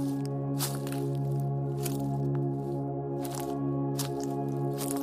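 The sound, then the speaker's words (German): Slow, regular footsteps crunch over a field path and forest floor outside the town on a clear, starry night, each step a short crackly scrunch, over a steady low background hum. “Aus dem dumpfen Hallen des Asphalts werden unsere Schritte nun durch Knistern und Knacken begleitet.”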